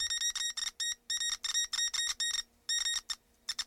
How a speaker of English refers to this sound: I've got a little secret. I've discovered by tapping the copper wire with a rusty nail, I can broadcast a message via Morse code.